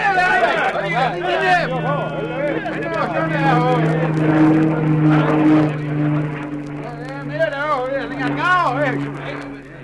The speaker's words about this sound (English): It must have been the plane. They stopped to look at it as it went over and changed their direction when they moved off again.